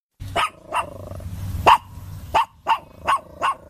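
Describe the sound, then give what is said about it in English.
A Great Dane named Rocky, weighing 80 kilos, barks repeatedly, six deep, loud woofs spaced irregularly over a few seconds, with a low rumbling background between barks. “whose Great Dane, named Rocky, weighs in at a hefty 80 kilos and has already given blood 3 times.”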